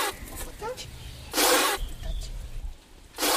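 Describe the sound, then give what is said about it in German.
A healer and Winti priestess sprays water from her mouth in two sharp, hissing bursts during a cleansing ritual herbal bath, the first about half a second long and the second starting near the end, over a low, murmuring background. “Aus ihrem Mund sprüht Wasser, eine Fontäne.”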